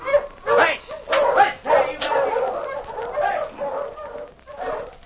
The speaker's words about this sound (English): Dog!